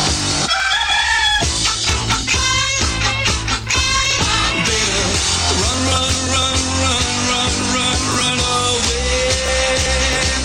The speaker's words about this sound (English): He's clucking a lot, but he's not saying anything.